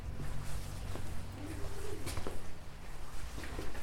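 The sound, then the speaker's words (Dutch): Birds call in a garden, with a few soft, low cooing notes rising over a steady background rumble, fairly faint and unhurried, with no talking. “Zoals oog hebben voor de mensen om je heen, voor de vogels in de tuin.”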